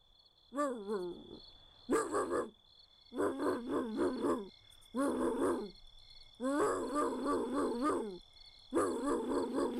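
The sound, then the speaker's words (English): A voice imitates the starter of an old Nash Metropolitan with starter trouble cranking, with a series of loud, gravelly, grinding bursts, some short and some drawn out, separated by brief pauses and repeating in an uneven, labored rhythm. “And the starter trouble.”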